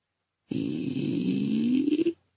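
A single long, rasping snore, a rough buzzy inhale lasting under two seconds that rises slightly in pitch before cutting off, with silence around it.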